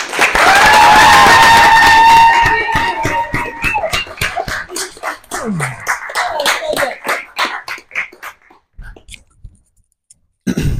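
A crowd at the STL Luminary event bursts into loud applause for a speaker, mixed with whoops and a high whistle, then the clapping thins to scattered, separate claps that fade out before a brief final patter.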